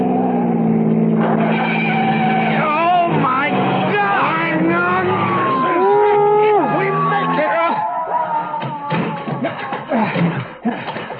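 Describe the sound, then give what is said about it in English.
Car engines roar and rev loudly while tires screech in long, wavering squeals during a car chase at about 98 miles an hour, one car passing another to crowd it onto the shoulder, the racing and skidding continuing throughout, with indistinct voices faintly mixed in. “Now we've got him. I'm going to pass and crowd him onto the shoulder.”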